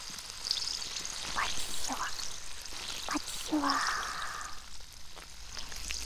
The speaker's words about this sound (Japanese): 炭酸でお兄さんの耳を蹂躙中。